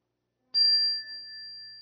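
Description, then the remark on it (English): A single chime is struck once at a morning gathering for quiet reflection, ringing out with a bright, clear metallic tone that sustains and slowly fades after a sharp attack, heard alone with no voices. “May the sound of this chime awaken within us the memory of those who came before us and have struggled to light the way.”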